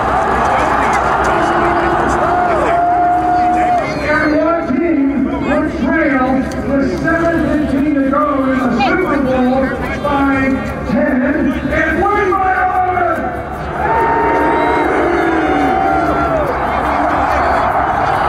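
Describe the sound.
A huge crowd of nearly a million people at a Chiefs celebration chants in loud, rhythmic unison, led from the stage by Chiefs radio voice Mitch Holthus on February 5, 2020; the massed voices rise and fall in a steady cadence with cheering mixed in, continuous for the whole stretch.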